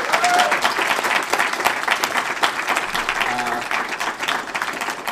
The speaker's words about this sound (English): So if we could get a round of applause for the organizers.